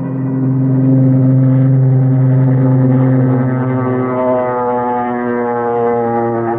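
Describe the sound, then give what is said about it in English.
A small propeller plane's engine drones loudly and steadily as it takes off from a jungle airstrip, its buzzing tone rising slightly as it powers up, continuous with no voices. “We loaded Colonel Sawaka into the small plane.”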